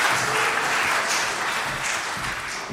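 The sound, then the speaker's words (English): An audience gives a round of applause for volunteers, many hands clapping in a dense, even wash of sound that stays loud throughout without any voices breaking through. “Let's give them a hand of round of applause.”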